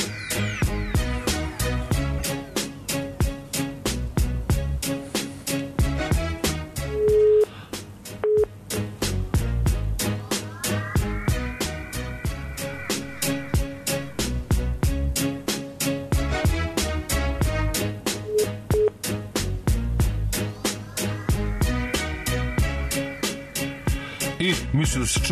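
An upbeat instrumental track plays on air, loud and continuous, driven by a steady, fast beat with bright synth chords and occasional rising swells, with no singing or talking over it.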